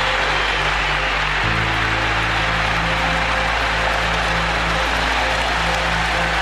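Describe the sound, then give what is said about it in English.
A huge stadium crowd at a baseball game roars after a home run puts the Mets ahead 3-2, in one sustained, dense wall of noise, cheering and clapping loudly without letup, with a low steady hum underneath and no distinct voices. “I've really never heard a crowd unload like that.”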